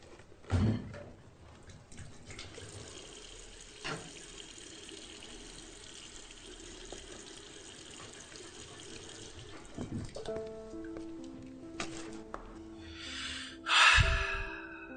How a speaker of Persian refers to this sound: بذار کتری رو بذارم روی گاز و بیام، بعد تا یکم صحبت بکنیم آب جوش میاد و چایم آماده میشه.